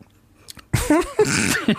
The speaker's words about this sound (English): I'm going to clear my throat. Sorry.